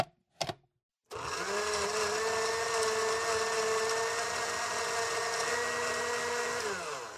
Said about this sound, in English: Now we put the oranges in the blender first and then the other fruit. And finally, we add the milk, yogurt, and honey. Oh, and don't forget the ice cubes. They go in last. Next, we blend everything together for 1 minute.